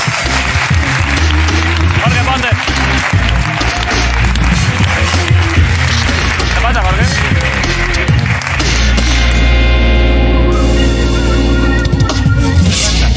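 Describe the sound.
A crowd claps and applauds steadily for several seconds, a loud, dense patter of hands, with voices talking and calling out over it.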